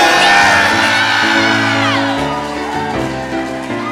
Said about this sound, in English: Yeah! And the crowd goes wild